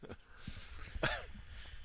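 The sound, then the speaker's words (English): A single short cough, a sharp burst that trails off quickly, with faint low thumps and background noise around it and no talking. “I just coughed.”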